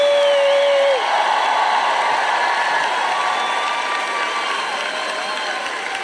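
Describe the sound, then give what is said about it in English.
An audience bursts into sustained cheering and applause during a praise break, a dense wall of clapping and shouting that holds steady, with whoops and a long high vocal cry rising above it. “By the way, we'll just take a praise break.”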